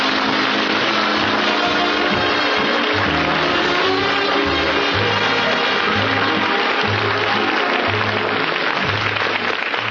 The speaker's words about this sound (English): I can't tell you how much it means to me to have me come out here after all these years all by myself, and you're all applauding and got those smiles on your faces and glad to see me.